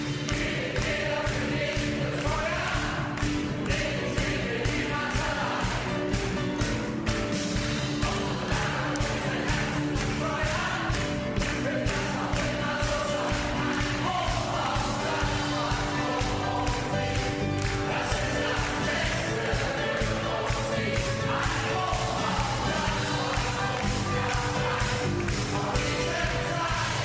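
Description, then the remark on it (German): Hundreds of strangers at a group sing-along event in Germany sing old hits together loudly and continuously, with steady rhythmic clapping keeping time throughout. “Hier geht Singen und Klatschen offenbar Hand in Hand.”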